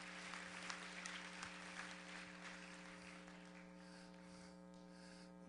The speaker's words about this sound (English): Oh, clap your hands.